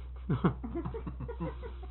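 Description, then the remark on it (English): A voice imitates a turkey clucking: a quick run of short, throaty, gobbling bursts, about eight in two seconds, loudest at the start, over a low steady hum. “Parrot? No, got that turkey.”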